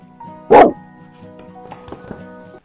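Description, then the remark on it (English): Rory, a family's trusty dog, gives one loud, sharp bark, then falls quiet while soft, sustained musical tones continue underneath with a few faint clicks and rustles. “and their trusty dog Rory.”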